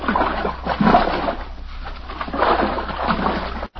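Water splashes and sloshes in uneven bursts as people swim and move around in the clear, green water at Trident, with a brief pause near the end.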